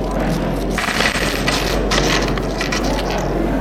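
Loose coins clink and jingle in a quick, irregular scatter of bright metallic taps over a steady low hum, as small change is counted out and handed to a cashier to pay for a seat.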